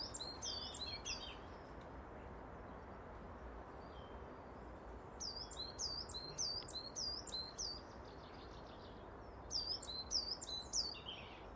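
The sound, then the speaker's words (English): Bright, high-pitched birdsong comes in three bursts of rapid, repeated chirping phrases, separated by pauses, over a steady background hiss of ambient noise, as light snow starts again and the sun breaks through the clouds. No one speaks. “But isn't that birdsong beautiful?”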